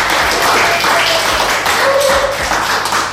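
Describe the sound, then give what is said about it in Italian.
A small crowd in a radio studio applauds loudly and steadily to welcome guest singers, dense overlapping claps filling the whole stretch without a break, with a few faint whistles or cheers underneath. “Benvenute, facciamogli un applauso.”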